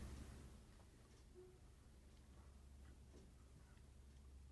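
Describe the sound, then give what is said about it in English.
A clock ticks faintly, its soft, steady clicks sitting just above a low background hum, with no one speaking. “Hear the clock ticking.”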